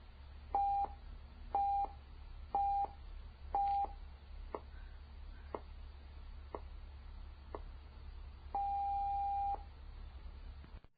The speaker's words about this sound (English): So it's like pulse tones and then a bit of like a metronome tick and then that longer tone.